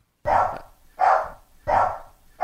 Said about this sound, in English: How do we know that Bear isn't barking obscenities? Every time he does that.